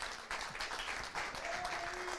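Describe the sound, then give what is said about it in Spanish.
A church audience gives loud applause, a dense wash of overlapping hand claps at an even loudness, with a faint tone briefly sounding underneath near the end. “Den un aplauso fuerte”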